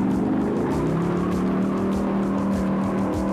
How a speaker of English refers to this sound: I said, hit the truck, yeah! We jumped inside, we fired up that ambulance. I said, cardiac red, my God, hit it!